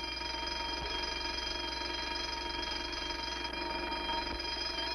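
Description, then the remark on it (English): A continuous electronic security alarm rings steadily at an even volume for the whole stretch, a shrill buzzing tone with dense high harmonics and a faint pulsing underneath, with no voices. “Just the security alarm.”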